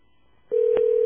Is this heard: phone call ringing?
yes